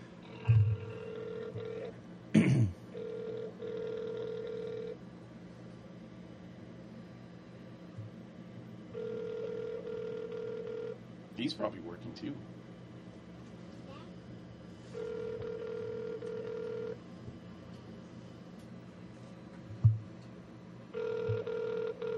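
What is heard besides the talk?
phone ringing on speakerphone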